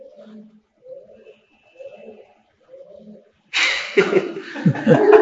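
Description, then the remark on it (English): A pigeon coos softly four times in a slow, evenly spaced rhythm, each low throaty call repeating the same pattern, before a louder burst of noise breaks in near the end. “Pigeon is singing.”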